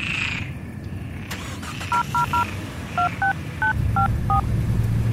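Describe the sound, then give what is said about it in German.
Eight short, clear telephone keypad beeps punch in the phone number of a school, a quick group of three then five more spaced out, over a steady low engine-like rumble with no talking. “Es gibt zwar noch ein Freizeichen, aber danach gar nichts.”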